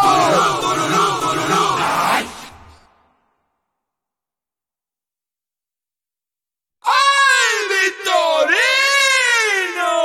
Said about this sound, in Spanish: Y haciendo palmas hacia arriba y arriba con ese grito.